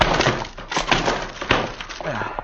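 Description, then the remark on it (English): A locked wooden door is forced open: a few heavy, irregular thuds and cracks with splintering wood, followed by a short voiced sound at the end. “Door's locked. I'll bust it in.”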